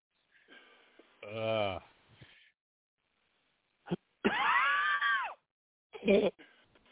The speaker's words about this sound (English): How come you always have that cough there?